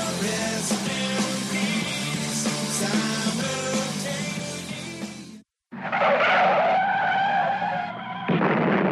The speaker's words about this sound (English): That was audio of Brian's actual car crash. My car was totaled.